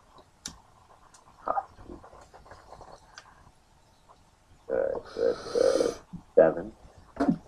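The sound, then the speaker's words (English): Seven dice are rolled for a running plus agility roll, a short clattering rattle of dice tumbling, lasting about a second, set among muffled voices and low background murmur. “Roll your running plus agility.”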